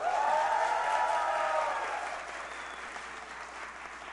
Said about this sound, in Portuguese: Agora vem a gritaria.